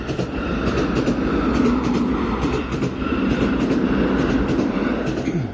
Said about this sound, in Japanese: おっと、また電車が走ってきました。